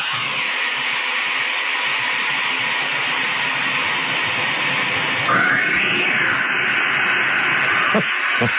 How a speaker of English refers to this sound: The first one is pretty good, as you hear the echo of the cat disappearing down the hole.